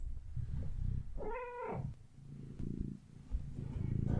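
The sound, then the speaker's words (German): A cat purrs steadily, a low continuous rumble running throughout, interrupted briefly by a single short rising-and-falling meow near the start. “Ich habe hier manchmal ein bisschen Highlife mit 2 Katzen und einem Hund bei der Podcast-Aufnahme, ist immer ganz spannend.”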